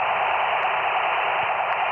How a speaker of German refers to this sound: Das ist jetzt also wirklich nur ein Rauschen. Schnell einen anderen.